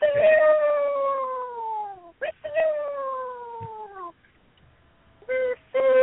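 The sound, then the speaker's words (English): A voice imitates screeching flying monkeys: two long, loud, wavering wails that slowly slide downward in pitch, then a few short, sharp yelps after a brief pause. “Watching monkeys fly, and the monkeys are flying, going,”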